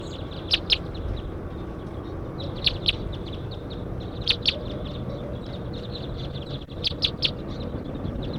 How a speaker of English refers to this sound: Very large flocks flying over now. Two birds at least, three. And here comes about 10 more. About 10 birds here now.